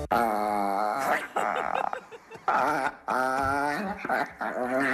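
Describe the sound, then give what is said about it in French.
A small pet dog whines and growls in several drawn-out, wavering bursts separated by brief pauses, fairly loud and with no one talking over it. “C'est mon petit chien.”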